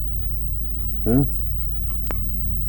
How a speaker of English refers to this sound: She ain't eat since yesterday this time. Yeah. That little dog. See, she want to eat something now. You want to eat?